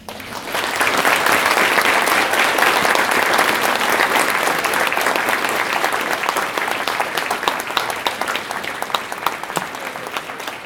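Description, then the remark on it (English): An audience breaks into sustained applause, a dense crackle of many hands clapping that swells quickly, holds steady for several seconds, then thins slightly toward the end. No voices are heard. “I want to applaud you for being here and listening to me. And therefore, if you feel so, you can do that.”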